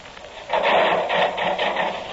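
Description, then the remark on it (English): A power saw bites into a log after a brief pause, its harsh, rasping whine holding steady with a quick pulsing rhythm as it cuts through the wood. “Yeah, start the saw going.”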